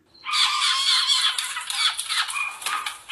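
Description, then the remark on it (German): Baby Eurasian jays scream for food in a continuous harsh, raspy chorus of overlapping high, noisy calls that starts abruptly and stays loud and insistent throughout, with no voices. “Diese winzigen Eichelhäher-Babys schreien, weil sie Futter haben wollen.”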